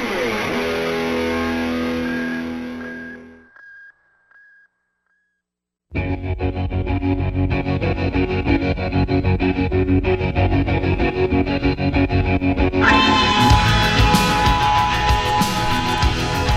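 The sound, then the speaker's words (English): Dense, ominous scary music with heavy, distorted layers fades out, a faint tonal wisp lingers, then near silence before the loud, driving music crashes back in and swells brighter and harsher toward the end. “Scary music.”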